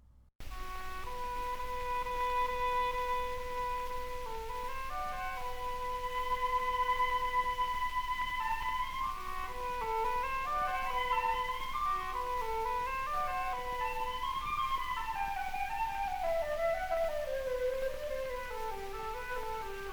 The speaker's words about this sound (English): I love this Madrilena from Massenet's Le Cid Ballet Suite. You get to hear two principals, oboist Cesare Arimando and flutist Anthony Linden, in a dialogue together.